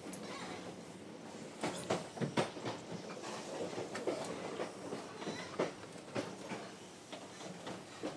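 train rolling on rails

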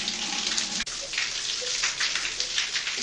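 shower water running

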